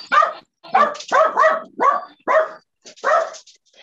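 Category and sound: animal, dogs barking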